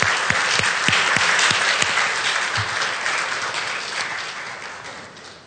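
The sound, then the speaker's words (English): A crowd applauds with dense, steady clapping that starts strong and gradually fades over several seconds, with no voices heard. “Would you give these folks a round of applause?”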